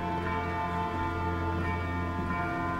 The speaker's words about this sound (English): It's out there in the landscape, in the city that surrounds him. There's a lot of bells ringing in the distance.